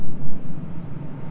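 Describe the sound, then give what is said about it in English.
An airplane passes overhead: a steady, low engine drone rumbles throughout, moderately loud with a slight swelling and fading and no voices. “I hear an airplane going over.”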